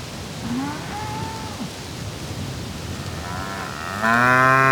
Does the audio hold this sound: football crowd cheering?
no